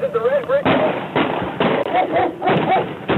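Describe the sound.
Several sharp, harsh bangs of gunfire go off in an irregular burst, about five shots in three seconds, on low-fidelity dash cam video from a backup police car arriving at a drug task force raid on a small house where marijuana was grown, with a raised, shouting voice at the start.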